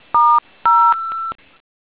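A few crisp touch-tone dialing beeps as a phone calls the operator on a conference line, each a steady dual-pitched electronic tone. The second runs into a longer held tone, all clear with no voices.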